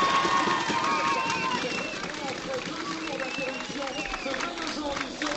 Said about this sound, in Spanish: Enfundándose la preciada prenda, la más preciada, la más bonita del ciclismo de 3 semanas y este es el aplauso.